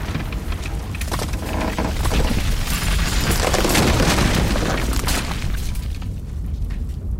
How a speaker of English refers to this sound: Whoa! Crap! Get to the sides! The roof is caving!